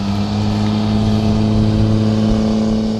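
A heavy truck engine drones steadily on a road beside Ship Creek, its low harmonic hum rising slightly as it accelerates, loud and continuous throughout with no voices.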